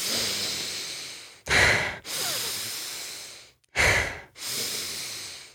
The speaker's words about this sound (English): And it was also compared to cyclic hyperventilation, which is similar to the Wim Hof method for any of you who may know that, but it's where the cyclic hyperventilation is more like this.